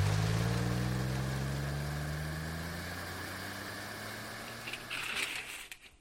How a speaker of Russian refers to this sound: И этого оказывается достаточно, чтобы мотор Бьюика заглох. Стартер опять долго прочихивается, прежде чем двигатель заводится.